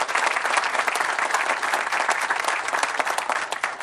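An audience applauds steadily, a dense, continuous patter of many hands clapping at a fairly loud, even level throughout, with no voices standing out, a round of applause for the Chamber of Commerce team who helped set up the event.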